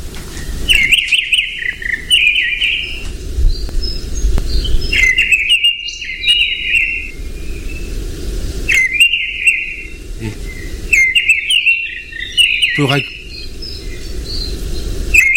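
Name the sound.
fieldfare song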